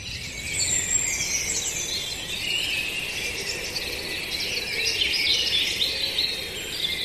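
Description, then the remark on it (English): A dense, steady wash of overlapping bird calls and high chirps fills the air, a spring dawn chorus heard outdoors around sunrise, with no voices. “either side of sunrise, about an hour either side, you can just hear that incredible soundtrack of spring.”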